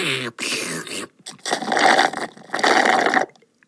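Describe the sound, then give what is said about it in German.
Wet, noisy slurping of juice in several bursts during an Advent coffee in a kitchen: two short ones, then two longer, louder sucking pulls, with a brief voiced sound at the start. “Und schlürften dazu den leckeren Saft.”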